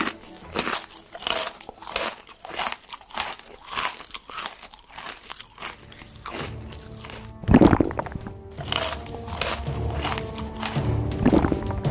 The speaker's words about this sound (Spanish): Masticar, tragar. Beber, tragar. En una palabra, deglutir, como este señor.